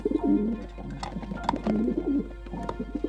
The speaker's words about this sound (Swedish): En duva landar utanför fönstret. Och det var inte en av de där vanliga grå duvorna. Den här var vit som snö. Precis en sån duva som Jonathan bett mig skicka från Nangiala.